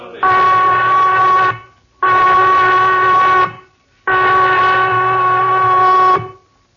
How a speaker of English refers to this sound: The prison whistle, Johnny, cutting Christmas out of the air like a knife. Lights out in 15 minutes, no matter what.